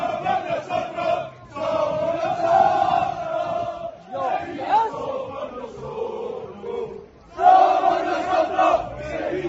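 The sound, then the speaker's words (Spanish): A large crowd of Sevilla football supporters in Seville chants loudly in unison, an angry roar of many voices rising and falling in sustained waves, with a brief dip before surging back even louder. “Pero escuchen el ambiente en tierras hispalenses.”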